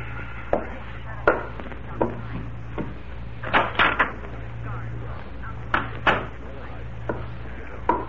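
A door is closed quietly: a scattered series of soft knocks and light clicks, some in quick pairs, over a low, steady hum, with no talking.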